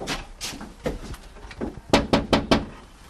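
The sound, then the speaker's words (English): Knocking on a front door while going door to door: a few lighter, scattered taps, then four firm, evenly spaced raps in quick succession, with no voices. “And then, you know, from about 9, 9.30 onward, you go out knocking on doors, which is what we're doing now.”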